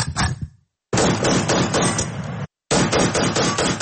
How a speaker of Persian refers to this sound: در این دره خاکی در کنار سر و صدای مردم صدای شلیک تفنگ‌ها شنیده می‌شود.